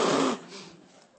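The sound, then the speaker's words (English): A loud, breathy nose-blowing sound lasting about a third of a second, a rough noisy blast into a tissue that drops off into a faint rustling tail. No one speaks. “Now, if I need to sneeze or I've got to blow my nose, what do I do? Well, I'm going to take a clean tissue and those are sound effects.”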